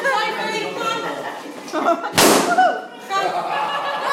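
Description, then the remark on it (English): A single loud, sharp balloon pop bursts out midway during a balloon-popping session at a children's youth party, surrounded by lively chatter and giggling from a group of children. “So yeah, we just had our youth evening and it was a big banging session of balloons then.”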